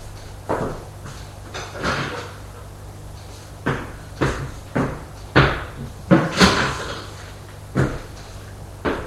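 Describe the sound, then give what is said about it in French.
A door being opened and shut, heard as a string of sharp wooden clunks and bumps at irregular intervals over a faint steady hum, with no voices. “On a frappé à la porte. Entrez.”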